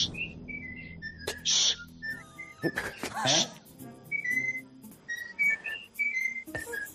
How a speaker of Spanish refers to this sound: que estaba en su casa con el loro al lado. Esto es buenísimo. Y el loro empezó a canturrear algo.